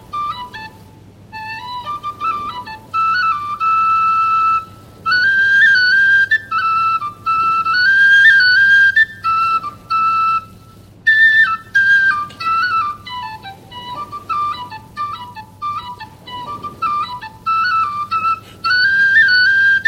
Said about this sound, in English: And passed down with a flute was a tune, a seal calling tune. And when the tune was played, the seals would hear it, and they would pop their heads up to listen. And it went like this.